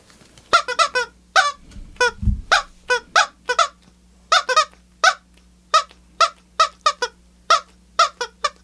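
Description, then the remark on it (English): A woman imitates a chicken, clucking a tune as a rapid string of short, squeaky clucks in uneven rhythm, fairly loud, with a brief low thump partway through. “She's a shitty clucker.”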